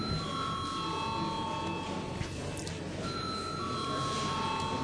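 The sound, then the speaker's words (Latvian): A parliament voting bell rings steadily and without pause for about five seconds before a vote on a bill in its second, final reading, a sustained electric tone over a faint hum, with no one speaking. “Paldies, lūdzu zvanu.”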